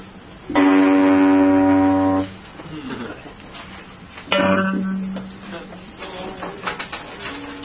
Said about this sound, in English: You can hear two tones, right? So where... You hear two tones that are basically the same note. They're basically the same note.